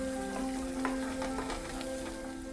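Food sizzles and crackles steadily in a hot pan as a burrito is cooked at a small home in Ona, with scattered sharp pops over a continuous hiss, while steady sustained tones hum faintly underneath.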